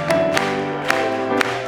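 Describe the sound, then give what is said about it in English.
A few sharp hand claps from a church audience clapping along to a hymn land on a loose beat, four in under two seconds, over a steady bed of sustained music with held tones. “Let's clap it one more time.”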